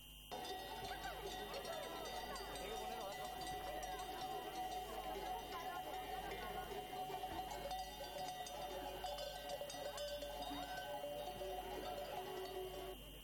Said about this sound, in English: Flocks of sheep are on the streets of Madrid. The animals have made their way through the center of the Spanish capital to follow ancient migration routes.